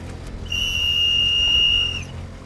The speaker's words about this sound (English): I'm going to call her in with the whistle.